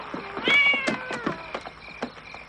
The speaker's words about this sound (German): Und dann gibt es auch eine ziemlich geile Szene, die rennen aus dem Haus. Und dann hört der Junge noch die Katze.